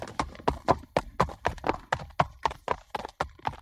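Horse hooves clip-clopping in a steady, quick rhythm during horse riding, roughly fourteen sharp hoof strikes over a few seconds, fairly loud with no talking.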